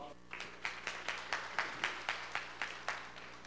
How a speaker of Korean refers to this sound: 이 정도 박수 가지고 오늘 잘해드리기 좀 곤란하죠.